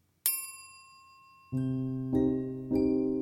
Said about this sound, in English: A bell rang.